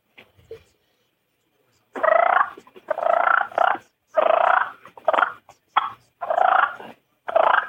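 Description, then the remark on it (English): Rolling turkey purrs blown on a mouth call, with the tongue pressed against the call and air blown over it, a series of short, fluttering bursts separated by brief pauses, fairly loud with no talking. “you got your tongue pressed against the call, and you're getting that, you're controlling the air, and you're blowing it over that”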